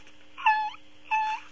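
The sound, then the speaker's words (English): A voice imitates a fart with two short, high-pitched, whiny squeals, each lasting about a third of a second and separated by a brief pause. No one speaks over them. “Is that what your farts sound?”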